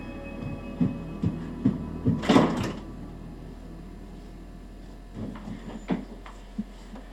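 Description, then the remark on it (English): Soft thudding footsteps move, then a bedroom door swings and bangs shut with a brief clatter, followed by a few more muffled knocks. “go to your room and shut the door.”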